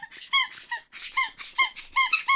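A squeaky rubber chicken dog toy with a broken bottom squeaks about ten times in quick, uneven succession, each squeak a short, high, reedy honk with a slightly strained, wheezy edge, as a dog named Lola is called to it. No voices.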